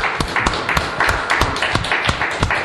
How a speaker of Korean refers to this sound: 교회라고요? 예, 맞습니다. 박수 한번 쳐주시죠.